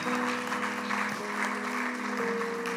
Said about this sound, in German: Ihr habt einen Applaus verdient. Aus dem Herzen kommt das.